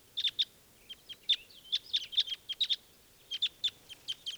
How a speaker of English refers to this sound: They're bringing the flock. One really bright red male there is singing, and that's him giving the flock.